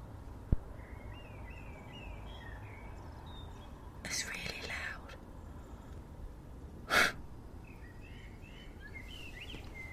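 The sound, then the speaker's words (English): A blackbird sings at night from a tree in short, high, chirping phrases, a run of quick notes early on and another near the end, fairly faint over a low steady rumble, with a couple of breathy rustling bursts between. “Apparently there's a theory that they sing at night because they can't compete with traffic.”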